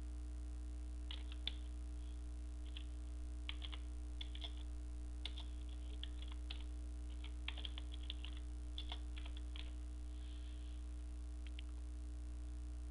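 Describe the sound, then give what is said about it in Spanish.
Quiet, irregular keyboard typing as a file name is entered to save a concept map on a computer: bursts of light key clicks spread over several seconds with short pauses, over a steady low electrical hum and no voices. “Le pongo un nombre a este mapa conceptual.”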